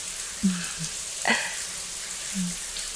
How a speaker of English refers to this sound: I can't believe this is the first time we're showering together in the new place.